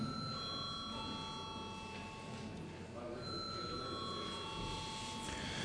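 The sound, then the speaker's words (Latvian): A parliament chamber bell rings steadily for several seconds, a continuous electric ringing tone over the low murmur of many people, rung in the Latvian Saeima before a vote on a bill in its first reading. “Lūdzu, zvanu.”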